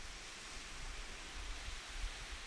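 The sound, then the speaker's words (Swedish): A steady, soft rush of ocean waves washing onto a beach, recorded on the beach, heard alone as a continuous hiss-like surf with gentle low rumbling swells, fairly quiet. “Och jag vill att du börjar med att lyssna på vågorna och de ljuden som är omkring.”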